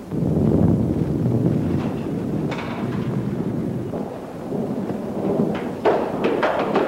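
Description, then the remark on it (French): A thunderstorm rumbles steadily with deep, continuous low thunder, gusting wind and rain, with occasional sharper crackles near the end; no one speaks. “Un seigneur égaré, surpris par l'orage, demande l'hospitalité pour la nuit.”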